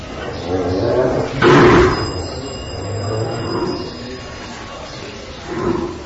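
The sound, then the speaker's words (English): Bulls and cows in Gokarna bellow and moo in a few drawn-out calls, one loud roaring bellow early on and softer lowing later, over a steady outdoor rumble. “It's very beautiful stereo effects of these bulls roaring and cows mooing.”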